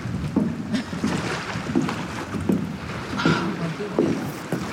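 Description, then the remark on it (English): Outdoor water ambience at a bridge: a steady wash of moving water with wind noise, broken by soft splashes and knocks every second or so, moderately loud. “follows Chaos to a bridge near the water”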